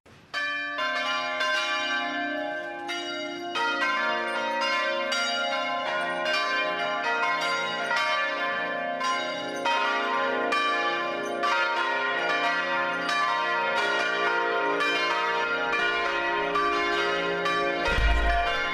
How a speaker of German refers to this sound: Das sind die Glocken aus Tessé, die Sie und ich da hören. Dreimal am Tag, morgens, mittags und abends, rufen diese Glocken alle Menschen, die gerade auf dem Hügel von Tessé sind, zum Gebet in die Versöhnungskirche.